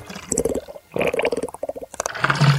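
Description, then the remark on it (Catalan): Water gurgles and splashes in uneven bubbly bursts, fairly loud, as a repaired fountain regains its water, with no voices over it. “I la font va recuperar l'aigua.”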